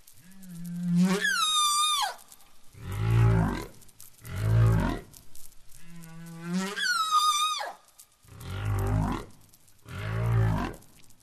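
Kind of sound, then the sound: animal, humpback whale song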